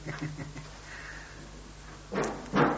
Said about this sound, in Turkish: Tamam, kapıyı kapa.